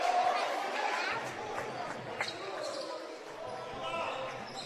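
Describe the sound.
A basketball is dribbled across the timeline on a hardwood court during a game between the Lee Scott Warriors and the Tigers, in a handful of sharp, irregular thumps, set against the steady murmur of a gym crowd and scattered indistinct voices.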